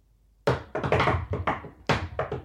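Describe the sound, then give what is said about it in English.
A loud series of sharp secret knocks on a door in an uneven rhythm, a quick cluster, a brief pause, then another burst of raps, with no voices. “I have to do that secret knock to open the...”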